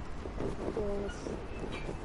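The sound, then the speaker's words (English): Metal supports of a footbridge with wooden slats, about 30 inches wide, creak as people walk on it, with a brief strained, squeaky groan midway through over a steady, rumbling wash of noise; no one speaks. “Yeah, that creaking you hear is all the metal that holds this bridge up.”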